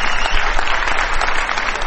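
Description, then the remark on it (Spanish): A crowd at the Sala Apolo concert hall in Barcelona applauds steadily to greet an artist, a dense, continuous wash of clapping hands with a few scattered shouts mixed in, loud throughout. “Nuevos gritos saludarán rajando los tejados la presencia del artista antes llamado …”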